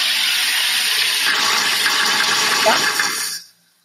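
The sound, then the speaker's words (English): A home soda maker hisses loudly and steadily as gas is forced into the water when its button is pressed, a bubbling rush lasting a few seconds before it abruptly cuts off. “Press a couple times until you hear like a puffing sound.”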